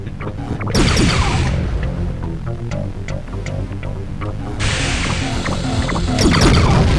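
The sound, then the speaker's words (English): A video game crash as something slams into trees: loud, noisy bursts of crunching impact near the start and again midway, with scattered sharp clicks and a rumbling game soundtrack underneath. No one speaks. “I crashed into the trees there.”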